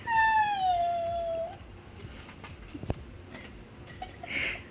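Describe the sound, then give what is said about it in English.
A puppy, given as a surprise by parents to their 10-year-old son, lets out one long, high whimper that slowly drops in pitch, clear, then fades into faint rustling and a sharp click. “Now watch as 10-year-old Waylon gets emotional when his parents surprise him with a puppy”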